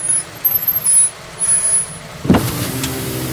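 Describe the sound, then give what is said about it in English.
A heavy vehicle's engine rumbles low and steady, then a sharp, loud hiss of air brakes bursts out as it pulls over to a stop at a bus stop, with a lingering softer hiss afterward. Nobody speaks. “Pull over, he's not getting away that easy.”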